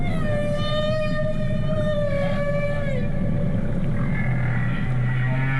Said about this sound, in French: Ce chant si particulier des baleines à bosse, hein, on dirait presque parfois des chats qui ronronnent.